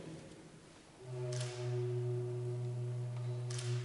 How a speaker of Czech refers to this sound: Ale když vezmu zátku a ten vrchní konec zápuji, ta píšťala bude znít prakticky o oktávu níže.